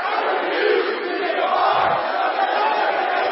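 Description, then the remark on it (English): A large crowd shouts the phrase "I refuse to be a part of another generation" together in unison, a loud, dense wall of many voices sustained for a few seconds with no single speaker standing out. “Shout with me. I refuse to be a part of another generation. Now let me hear you say it.”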